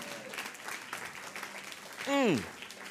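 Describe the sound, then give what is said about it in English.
An audience claps during a morning sermon in a dense, steady patter throughout, with murmuring voices underneath; near the end a single loud voice lets out a short shout that swoops downward in pitch. “Those of you who aren't clapping, you are suspects this morning.”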